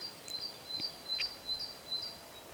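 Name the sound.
birds singing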